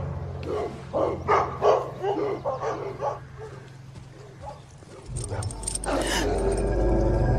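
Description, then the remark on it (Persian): Young dogs of a newer breed bark in a quick run of about eight sharp yaps over a few seconds, then fall quiet as a steady low rumble fills the background. “چه سگای خوبی. راستش اینا رو تا حالا ندیده بودم.”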